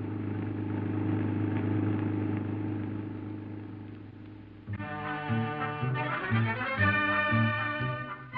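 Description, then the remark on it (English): A convertible car cruises along at speed on Mexico Highway 1 toward Ensenada, Mexico, its engine and road rumble holding steady and fairly loud for several seconds, then cutting away to a bright tonal, music-like passage. “Say, honey, how about putting the top down after we get a little further out in the country, huh?”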